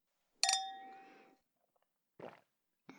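wine glasses clinking

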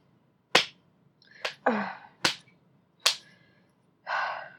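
hand spanking bare skin

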